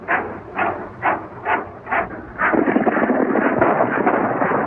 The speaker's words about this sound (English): Back along the trail, the cowboy hears the shots.